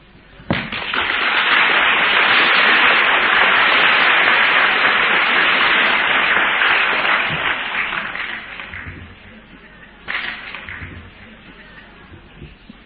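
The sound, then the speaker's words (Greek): A crowd bursts into sustained applause, loud and dense for several seconds before thinning out, with a brief second swell of clapping near the end. “Μα δεν φτάνει να τους χειροκροτείτε.”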